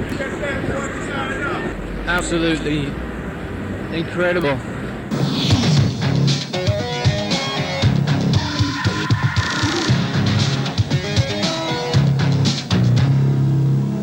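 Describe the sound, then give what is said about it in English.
Busy outdoor street noise in New York City with a loud, rumbling roar of planes overhead and sharp clattering bangs of construction work, continuous throughout, while a man speaks briefly. “Listen to this, planes, construction.”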